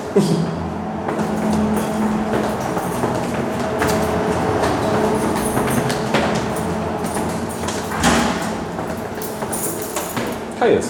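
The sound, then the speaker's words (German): On the first floor of a building, a refrigeration chiller whooshes loudly and steadily throughout, a dense rushing noise with a low droning hum and a few brief louder surges. “Im ersten Stock hört man das Rauschen der Kältemaschine.”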